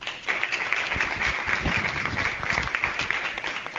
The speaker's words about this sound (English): So a round of applause for them.